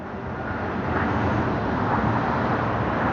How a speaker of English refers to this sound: And also, I'm sitting here, I could go down farther on the rocks. I could probably go down farther and get below traffic, and you won't hear the traffic as much.